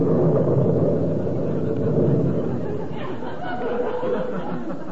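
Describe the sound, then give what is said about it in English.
A loud thunder crash rolls out as a deep, sustained rumble, filling several seconds with broad roaring noise before easing slightly, with no voices over it. “If I ain't telling the truth, may lightning strike...”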